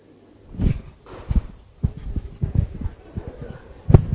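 Horse hooves clip-clopping in an uneven rhythm, a run of moderately loud knocks with short gaps, ending in one sharper hit near the end.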